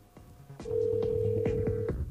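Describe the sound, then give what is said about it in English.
A telephone ringing tone from a call that goes unanswered sounds as one long, steady mid-pitched tone lasting over a second, with a low buzz and a run of regular soft clicks beneath it. No one speaks. “It's still ringing there.”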